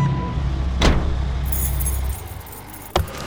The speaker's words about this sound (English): Mark backed his trailer up to an empty loading dock.